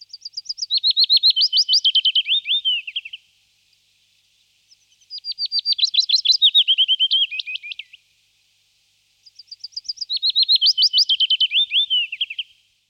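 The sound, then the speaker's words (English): Willow warbler song: three sweet, lisping phrases that trickle down the scale, each about three seconds long with short pauses between, clear with no other sounds. “Willow warbler, a sweet, lisping descent down the scale.”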